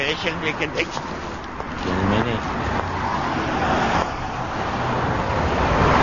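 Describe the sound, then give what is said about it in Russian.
A powerful Russian-made car engine runs steadily with a broad, rumbling road-noise roar, loud, while muffled voices talk over it near the start. “Судя по дизайну, это мощный автомобиль.”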